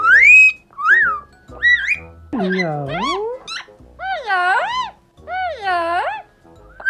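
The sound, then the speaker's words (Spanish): An Amazon parrot in Norfolk, in the east of Great Britain, gives a few short, bright rising whistles, then a run of warbling, voice-like squawks that mimic speech, saying hello to passers-by; fairly loud with brief pauses between calls. “Bob, como escuchan, es muy educado. Silba y dice hello a todo el que pasa por delante.”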